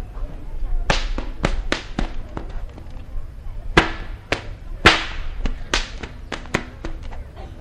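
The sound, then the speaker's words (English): Sharp cracks of cattle whips being popped, as Florida cowboys did to roust cattle out of the underbrush, snap out in a quick, irregular series, about a dozen loud pops ringing over a faint outdoor background, some in rapid pairs and others spaced apart. “As the boys that was tending the cattle, they would pop their whips, and it was...”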